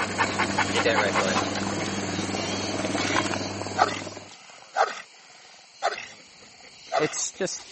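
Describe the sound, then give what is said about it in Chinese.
A military dog named Dusty lets out a series of loud, harsh barking howls, about four sharp bursts spaced a second apart, after a dense stretch of mixed background noise. “达斯提性情温顺，平时不爱动，但你如果惹怒他，他就可能会朝你高声嚎叫。”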